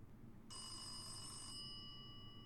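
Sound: telephone ringing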